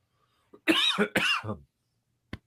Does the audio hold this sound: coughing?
yes